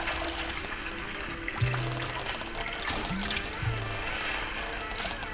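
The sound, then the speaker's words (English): Several people's footsteps squelch through wet, waterlogged soil, with a few wet sucking steps standing out over a steady outdoor wash of noise. No one speaks. “Some people walking on a very humid and full of water soil.”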